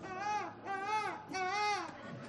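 A seagull screeches three times in quick succession, each loud, harsh cry drawn out and arching up then down in pitch, with no voices alongside.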